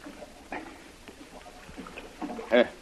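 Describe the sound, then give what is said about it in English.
Canoe paddle strokes dip and swish through water in a few soft, uneven splashes, ending with a louder splash, while a muffled voice briefly sounds near the end. “Hold the canoe on this side here, and I'll swim up there.”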